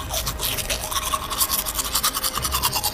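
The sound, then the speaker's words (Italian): Teeth being brushed, Shrek brushing the wolves' teeth, with quick, rhythmic back-and-forth scrubbing strokes, a steady bristly hiss that continues throughout at moderate loudness, with no voices. “Shrek, che è un buon conoscitore dell'igiene dentale, dice: ve li lavo io i denti!”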